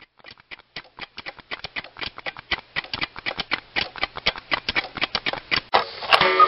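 Pages are leafed through in a folder: a close, steady run of crisp little paper flicks, a few each second, ending in a louder, longer rustle. No one speaks.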